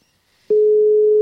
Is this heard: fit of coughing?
no